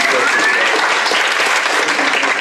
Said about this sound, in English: All of our speakers that we've heard from, just such incredible people. One big round of applause for all of the speakers.